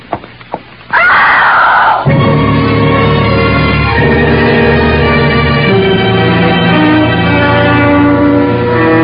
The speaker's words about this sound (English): It was a good, loud scream.